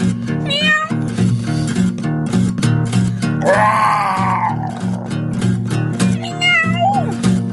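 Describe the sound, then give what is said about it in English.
Three meows imitated by voices over a steady, looping music beat: a short one early, a long drawn-out wail in the middle, and a rising one near the end. “We want to hear from the pussycats.”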